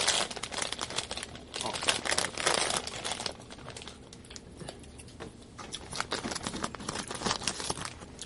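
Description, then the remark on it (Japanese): Busy crinkling and rustling of a plastic wrapper of a Ginza Tachibana snack being handled and pulled at while trying to find a way to open it, as it has no tear notch. Sharp crackles come in dense bursts throughout, with no speech. “これ 全然開けれるところ見つかれ へん。切れ目ない。”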